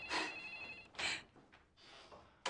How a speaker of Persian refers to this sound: تلفن بازم مشتری زنگ زد، من رفتم.